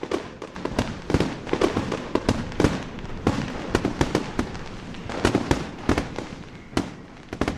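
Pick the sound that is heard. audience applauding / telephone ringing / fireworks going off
fireworks going off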